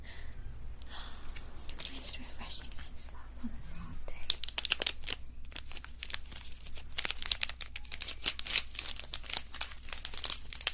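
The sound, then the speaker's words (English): An ice pop, pulled out of an ice cooler, being unwrapped: steady plastic crinkling and crackling with sharp tearing bursts, growing busier in the second half, with faint breathy whispers near the start. “So let's see, let's just reach in my little ice cooler, pull out ice pop.”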